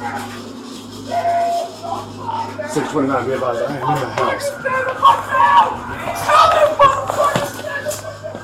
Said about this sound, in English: If it wasn't for the belligerent, abusive, and suicidal man screaming, we'd hardly feel at home, wouldn't we, listener?